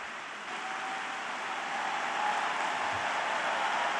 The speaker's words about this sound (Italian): Quando gli applausi durano più del discorso, dovrò fare un discorso più lungo, allora state attenti.